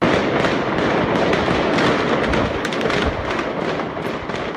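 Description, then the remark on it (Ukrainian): Dense, rapid gunfire crackles almost without pause, with sharp overlapping shots and occasional heavier bangs, loud throughout, with no talking, as terrorism suspects refusing to surrender shoot and throw hand grenades at Georgian security forces surrounding a 10-storey residential building. “Підозрювані відмовлялися від наказу здатися, почали стріляти і кидати ручні гранати в силовиків.”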